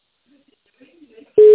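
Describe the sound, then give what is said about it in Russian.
Faint, low murmuring gives way to a loud, steady telephone ringback tone that cuts in abruptly near the end and holds at one pitch. “Продолжается попытка дозвониться до абонента, который пока что не успел ответить на вопрос.”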